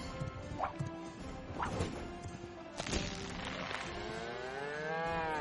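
A cow lets out a long, drawn-out moo near the end, following a few sharp thumps and crashes in a busy, layered soundscape with no talking.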